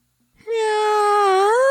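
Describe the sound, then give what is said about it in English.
A person imitates a cat's meow with one long, loud vocal note that holds steady, dips slightly, then lifts at the end. No other voices or sounds. “gave us this for his kitty cat meow”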